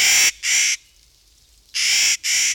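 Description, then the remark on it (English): Clark's Nutcracker giving harsh, grating calls, loud: two raspy squawks in quick succession, a second-long pause, then another pair. No other sounds. “In late summer at Mount Rainier National Park in Washington State, a popular trek takes hikers to Burroughs Mountain, home of the Clark's Nutcracker.”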